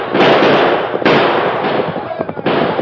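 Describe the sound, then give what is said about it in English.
Loud, sharp gunshots crack out at uneven intervals, about three main blasts, fired by pursuers on horseback at fleeing riders, each trailing into a dense rumbling wash of noise, with muffled voices mixed underneath. “Yeah, shoot at them.”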